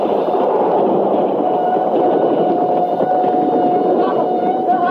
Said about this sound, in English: Up on the roller coaster. Two cars coming around that last curve. Hey, you're right. They'll be at this platform any minute.